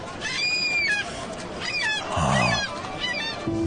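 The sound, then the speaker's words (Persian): A bird calls loudly several times in quick succession, with harsh, honking cries repeating unevenly over a noisy background, with no talking. “آهای نه نه نه نه، دنبال اون پرنده نرو، برات خوب نیست.”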